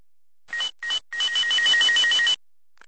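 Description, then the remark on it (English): A telephone at a locksmith's business rings loudly with a warbling electronic trill: two short bursts, then a longer continuous ring of a little over a second, with no voices. “Here's a phone conversation I had a couple years back that really stuck in my mind.”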